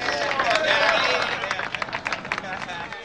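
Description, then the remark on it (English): A group of workers on their lunch breaks cheers and whoops loudly together, bright voices rising over a steady crowd roar, followed by scattered sharp claps as the cheering continues. “The workers on their lunch breaks cheer.”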